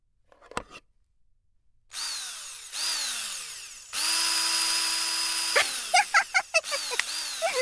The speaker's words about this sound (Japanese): では電動ドライバーとかがそれっぽい音がするのでは。デンドラ。